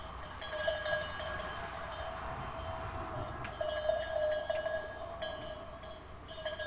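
Bells on the neighbor's goats frolicking in a yard in Rabat jingle and clank irregularly in the morning over a steady low background hum, their bright metallic tones overlapping in loose clusters with no one talking.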